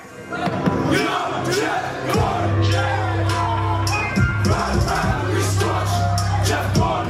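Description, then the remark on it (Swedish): A large concert crowd cheers and sings the chorus of the performer's first song together while jumping in time, everyone knowing it by heart, a dense roar of many voices with sustained sung notes and shouts rising over a low pulsing bass, loud and continuous throughout. “Han behöver inte sjunga refrängen. Den hörs ändå.”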